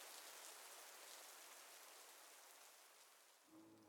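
Soft rain patters steadily in a dense, even hiss, with a faint low thud near the end. No voices, just the continuous gentle wash of rainfall.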